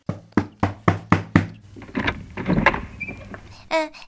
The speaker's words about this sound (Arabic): ولما وصل غرفته طرق الباب ودخل عليه.